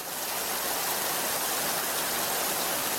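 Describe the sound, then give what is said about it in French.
Steady rainfall pours down in a continuous, dense hiss, unchanging for the whole stretch, with no voices or other sounds breaking through. “La pluie n'a toujours pas cessé, mais ma mission s'achève ici.”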